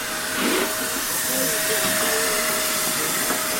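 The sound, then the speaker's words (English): Steam locomotive number 65, in green Southern Region livery, gently blows off its safety valves at Swanage as people board: a steady, continuous rushing hiss that holds at an even level throughout, with a faint thin tone running underneath. “Safety valves just gently blowing off, and people getting on board for their train ride behind this historic locomotive.”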